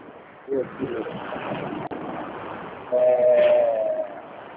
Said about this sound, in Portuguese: Porque eu tô aqui na rua, tá um barulho de caramba. É, tá um barulho de carro, né?